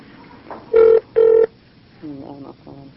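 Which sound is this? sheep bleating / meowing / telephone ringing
telephone ringing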